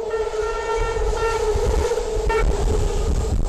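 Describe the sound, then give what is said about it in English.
A train rumbles steadily along the rails, its low, heavy roar continuous throughout, with a sustained tonal horn-like hum layered over the top. Loud, with no voices. “Songs, trains, rustling leaves, they all have a kind of musicality.”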